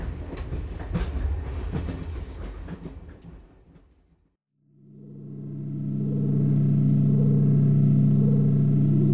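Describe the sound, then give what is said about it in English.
A train clatters loudly along the rails with rapid irregular knocks, fades to a brief silence, then a steady droning mechanical hum swells up and holds. No one speaks. “I know you want to avoid handcuffs, but since Anton is supposed to meet us in Kiev, we'll cuff you before getting off the train.”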